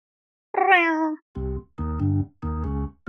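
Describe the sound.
A cat meows four times: first a high, drawn-out cry that slides downward, then three shorter, lower and rougher meows in quick, steady succession.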